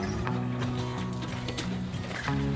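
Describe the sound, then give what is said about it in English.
A cow's hooves clop unevenly across a hard floor as she is driven into a stanchion for her first milking, several distinct steps over a steady mechanical hum, with no talking. “She's going right in the stanchion.”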